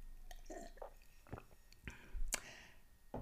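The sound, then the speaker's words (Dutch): Someone takes a quick sip of a drink, with soft wet slurping, a few mouth clicks and a swallow, all quiet and brief with no talking. “Ik neem even een slokje tussendoor.”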